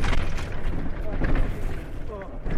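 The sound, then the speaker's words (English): A kamikaze drone exploding in a fireball about a metre in front of a vehicle: a loud, dense, low rumbling roar that holds steady for the whole stretch, with faint indistinct voices mixed into the din. “Looks like a grenade from a drone that just landed. Just hit right in front of a vehicle.”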